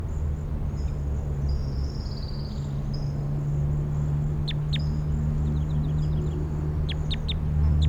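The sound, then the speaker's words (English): A song sparrow sings faintly from right behind recording point 5-7 over a steady low rumble, a thin run of high notes and a quick trill, followed by several sharp, bright notes toward the end. “Song Sparrow right behind 5-7.”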